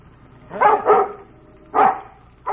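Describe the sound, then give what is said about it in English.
A dog, Bullet, a Welsh Terrier, barks excitedly: two quick barks, a short pause, another sharp bark, then the start of a fourth. The barks are loud and clear with no one talking. “He's upset about something. He wants us to follow him.”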